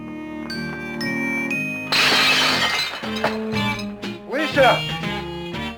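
A loud crash of a dropped stack of paper plates, with a burst of shattering, crockery-like sound followed by a few smaller clattering hits, set against sustained musical tones.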